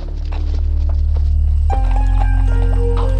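Hooves of a horse and a loaded pack animal trotting quickly up into the mountains in a steady clip-clop rhythm, loud, over a constant low droning hum.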